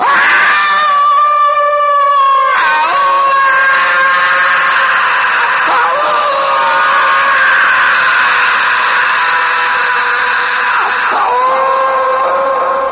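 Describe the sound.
A loud, sustained primal victory yell from a human voice, Tarzan the ape-man's cry of victory, rich in harmonics, yodeling through sudden pitch breaks as it wavers up and down for about thirteen seconds.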